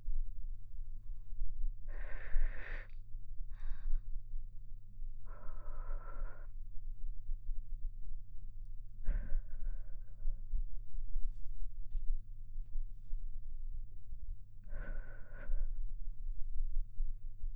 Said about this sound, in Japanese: え、吐息も欲しい？できるかな？